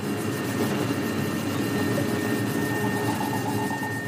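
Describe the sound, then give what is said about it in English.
A deep, steady drone from a large piece of space junk passing overhead, with a dense rumbling texture and a faint thin whine above it, holding constant without any speech. “And if a very big bit of junk passes overhead, then you hear a very kind of deep tone.”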